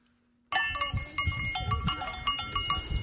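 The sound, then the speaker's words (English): A herd of goats grazed by Maasai tribesmen on the plain bordering Serengeti National Park in Tanzania bleats over a busy clatter of cowbells that ring and clank repeatedly, with low rumbling movement underneath, fairly loud after a sudden start. “As they have done for centuries, Maasai tribesmen graze their goat herds on the vast plain bordering Tanzania's world-famous Serengeti National Park.”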